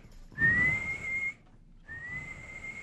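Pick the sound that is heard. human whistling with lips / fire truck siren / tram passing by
human whistling with lips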